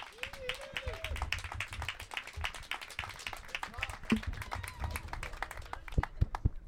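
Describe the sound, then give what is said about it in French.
An audience applauds steadily to welcome a performer on a radio program, dense overlapping claps lasting several seconds, with a brief whoop or voice rising near the start and a few sharper claps toward the end. “nous lui offrons quelques minutes de récréation radiophonique sous vos applaudissements.”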